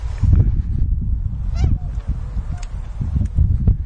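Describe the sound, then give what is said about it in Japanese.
Swans honk and call repeatedly in a noisy flock, harsh overlapping cries rising above steady low wind rumble, loud throughout. Recorded in winter on 21 November 2010 while approaching the swans and taking photos with a camera. “それでは2010年冬というか11月21日白鳥に接近してみましょうか。”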